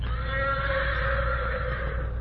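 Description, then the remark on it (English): A black horse whinnies in one long, sustained call, answering another horse's challenge, holding steady across the whole moment, loud, with a low rumbling hum underneath and no talking. “black horse heard him and answered his challenge.”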